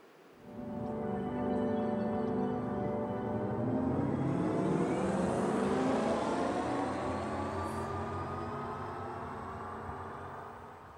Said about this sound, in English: And now I would like to show you how a potential sound based on the sound genetics for electric cars could sound like.